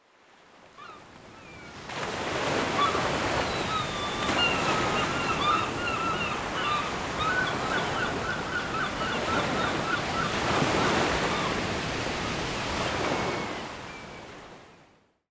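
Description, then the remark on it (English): Gentle ocean waves wash and hiss steadily over stones, fading in and swelling briefly before receding, with faint bird chirps scattered above the surf. “The evening tide came with gentle fingers to roll over the crabs and rock the stones.”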